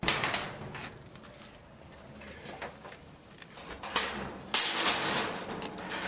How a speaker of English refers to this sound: At the next port of call, the dumpster divers have to open a metal door to get to the trash cans. Inexperienced passersby wouldn't have noticed that a dumpster is located here.